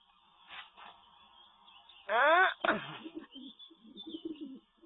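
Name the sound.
pigeon cooing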